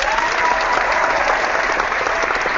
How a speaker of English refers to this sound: Applause for you.